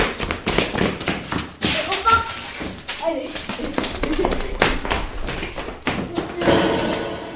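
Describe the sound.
Someone tries to open a locked door in a museum, producing a rapid series of heavy thuds and knocks as it is pushed and rattled, with a few voices briefly heard in the background.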